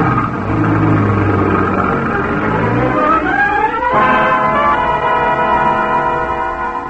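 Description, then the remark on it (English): A loud taxi engine revs up with a rising whine, then shifts and keeps pulling away steadily at high revs as the taxi sets off to follow a gray car, with no voices. “Follow that gray car, quick.”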